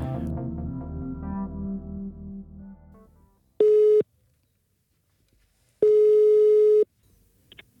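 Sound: telephone ringing tone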